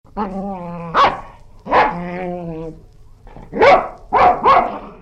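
A dog barks aggressively, about five sharp, loud barks, the first two separated by drawn-out tonal growls and the last three coming in a quicker burst.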